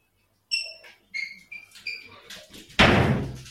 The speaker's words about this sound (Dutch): Dan doe het deurtje weer dicht.